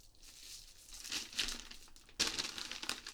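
Newspaper rustles and crinkles as it is crumpled and handled, with a steady crackle that swells into a louder burst of crushing paper near the end. No voices.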